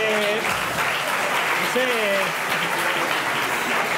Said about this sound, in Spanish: Yo como no entiendo este aplauso, también os lo digo. O sea, vale que la gente que le gusta Ilustres está medio loca, pero o sea...